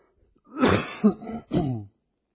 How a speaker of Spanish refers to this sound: Ahora, perdón con mi garganta y tos, congestión.